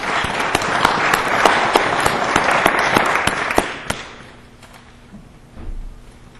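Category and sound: crowd, audience applause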